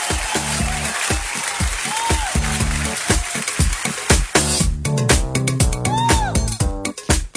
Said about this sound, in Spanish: Muy bien, un aplauso.